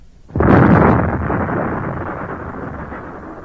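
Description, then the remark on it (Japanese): A single loud explosion of an explosive charge set off by a lit fuse in a dug trench bursts suddenly after a brief quiet, its deep boom rolling and rumbling on for several seconds as it slowly fades. No voices. “私は震える手で導火線に点火すると、一目散に向こう側の壕に飛び込みました。”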